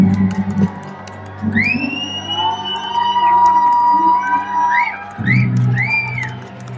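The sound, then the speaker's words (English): A large stadium crowd at a Threshers baseball game on Christmas evening cheers and roars steadily, loud and sustained, with shrill whistles and swooping, rising tones cutting through the noise and a low rumble underneath. “If you want to make it a very magical Christmas evening, you gotta make some noise.”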